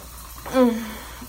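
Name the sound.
shower water running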